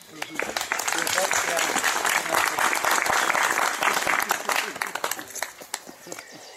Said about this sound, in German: Ist das nicht ein Grund, aus großer Dankbarkeit unserem Gott einmal Beifall zu klatschen?